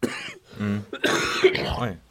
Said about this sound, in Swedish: Värsta hosten man har hört någonsin. Proof of my sickness.